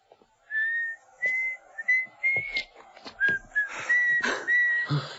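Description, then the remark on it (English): A woman whistles a wavering tune some distance below, in Australia, clear tonal notes rising and falling in short phrases with brief pauses, over faint clatter and a slightly echoing background. “That lady down there whistling.”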